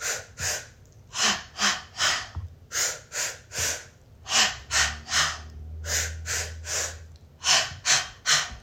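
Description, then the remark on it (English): Repeated deep, audible breaths in and out, fairly loud, with a steady rhythm of about fifteen quick airy inhales and exhales, some slightly gasping. “You gotta breathe. Breathe, breathe, breathing is the key.”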